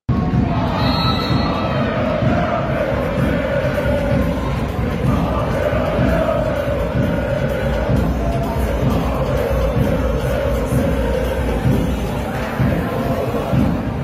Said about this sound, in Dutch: Wat mij opviel waren de Griekse supporters bij de CV-wedstrijd Zwolle tegen Panathinaikos. Ze hadden hun eigen vak gemaakt en stonden de hele wedstrijd te zingen en te springen. Vind ik wel mooi om te zien.